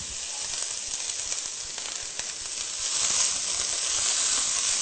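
Garlic is added to a hot pan after onions and sizzles steadily, a bright, broad hiss with scattered crackles and pops, growing a little louder toward the end, with no talking.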